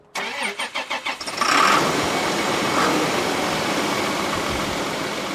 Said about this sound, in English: He starts up a hulking New Holland T8.275 tractor.